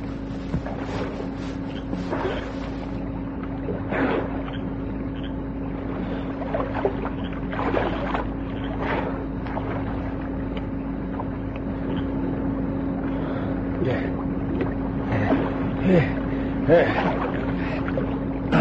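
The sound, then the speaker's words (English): Irregular splashes of water as someone treads water and swims about in a pool, briefly hanging onto the handrail, the sloshing bursts fairly steady over a constant low mechanical hum. “treads water, swims a little, shivers a lot, hangs onto the handrail for a moment, and then backs back to the center of the oval”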